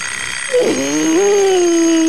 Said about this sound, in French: Réveil matin, one more time!